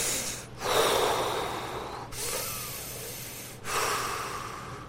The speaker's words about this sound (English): Faces and ears turning red as they hear him say this. Blood pressures going up. Breathing increasing.